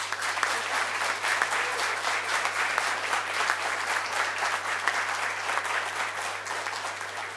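An audience at a prize presentation claps steadily for several seconds, a dense, even wash of many hands with no voices over it and a low steady hum underneath.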